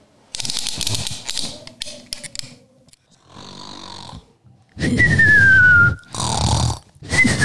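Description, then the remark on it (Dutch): Loud, heavy snoring in repeated rasping breaths, one of them ending in a high, sliding whistle on the exhale. The snores come in rhythmic bursts with no talking. “Wat hoor ik? Nou, grootmoeder kan wel snurken, zeg.”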